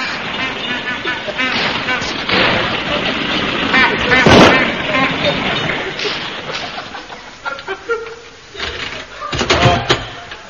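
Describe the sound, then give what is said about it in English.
A comic sound effect of a chauffeur-driven car pulling up: a loud, rattling, sputtering engine roar with sharp banging bursts, busy throughout, ending in a final burst of clatter. “The chauffeur is pulling it here now.”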